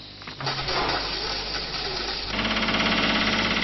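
Steady, loud construction noise from the site of the future Etele tér station of metro line 4, where dozens of workers labour from morning to evening, with heavy machinery droning and a rapid, rattling jackhammer-like pounding that grows denser and more rhythmic partway through; no voices.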